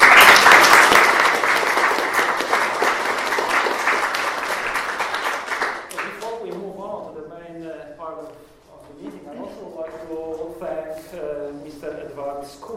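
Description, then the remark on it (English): A crowd claps loudly for Sister Forcades in a dense, steady burst for about six seconds, then the applause cuts off and a person begins speaking. “So can we give a big applause to Sister Forcades?”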